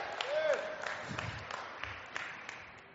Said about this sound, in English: Are you clapping because you believe in miracles that she stayed with me this long?